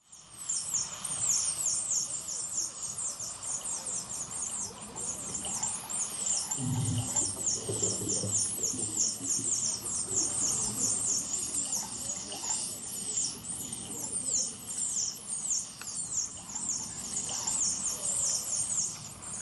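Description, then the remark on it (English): Dolphins squealing and whistling continuously in rapid, high-pitched chirps and squeaks as they are being slaughtered in a cove in Taiji, Japan, with splashing and low rumbling underneath and a brief muffled thump partway through. “That's the sound of dolphins as they're being slaughtered in a cove in Taiji, Japan.”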